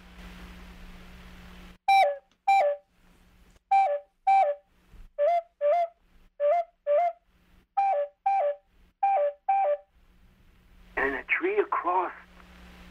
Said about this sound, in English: And in a tree, right in front of us, there was a red and black bird, and it sang its song like this.